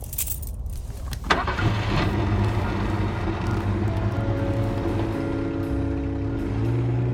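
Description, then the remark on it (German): Keys jingle briefly, then the engine of a new car turns over and catches, settling into a steady rumble whose pitch climbs as the vehicle pulls away and accelerates. “Das ist ein neues Auto. Genießen Sie die Fahrt”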